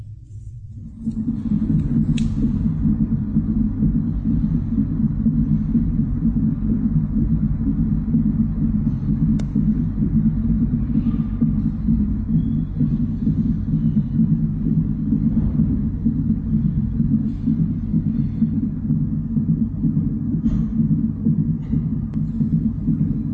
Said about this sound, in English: That's so powerful, as you're hearing the heartbeat of a child.